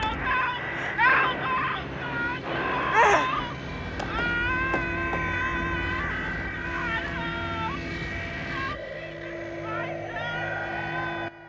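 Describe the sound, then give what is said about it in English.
Panicked screams of the crew of the damaged B-17 Mother and Country, spiralling down through the clouds, wail over a crackling radio heard aboard the Memphis Belle, high cries sliding up and down above a steady electronic hum and static that continue for several seconds. “The crew of the Memphis Belle listen to the screams. As the radio howls, Danny sits back sadly, closing his eyes.”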